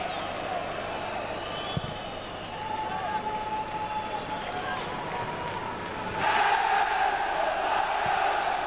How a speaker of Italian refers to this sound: Sentiamo un attimo l'audio più che altro dell'Olimpico, perché ci sono i tifosi del Bayern che adesso si stanno facendo decisamente sentire.